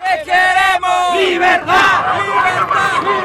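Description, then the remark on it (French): A large crowd of Juan Guaido supporters, blocked at the entrance of the Tianditas border bridge in Cucuta, Colombia, chants and cheers loudly and continuously as a crane truck passes, many voices rising together in sustained, tonal shouts with brief dips between phrases. “Alors pour l'instant, la foule reste bloquée à l'entrée du pont Tianditas, le pont frontière. Mais elle met la pression, elle chante, elle exulte.”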